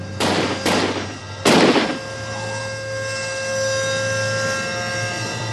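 gunshots

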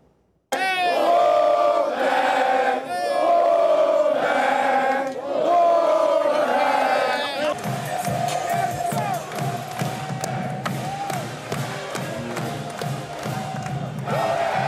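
crowd of supporters cheering

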